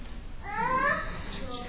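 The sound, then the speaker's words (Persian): A young child's voice rises briefly in the background, a short, high, wavering vocal sound lasting under a second amid low background noise. “دیدی صدای بچه هم داره”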